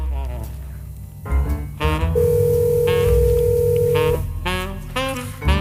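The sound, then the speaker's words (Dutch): A steady electronic ringback tone sounds on an outgoing phone call, a sustained beep lasting about two seconds, with people talking around it and a low hum underneath. “Hij gaat over. Hoor je hem? Ja, ik hoor hem.”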